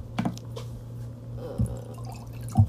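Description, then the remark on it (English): Water is poured into a small bottle cap to test its temperature, in three brief splashy bursts, the last one loudest, over a steady low hum with no talking. “Here, let me temperature test real quick. Pour that in the cap.”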